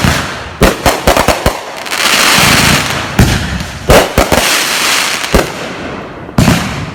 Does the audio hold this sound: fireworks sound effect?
yes